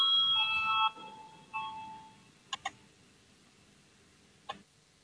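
A parliament voting bell gives a bright electronic ring for about a second, then a shorter second tone, followed by a few sharp clicks, otherwise quiet with no talking. It calls a vote on proposal 89, from the legal bureau.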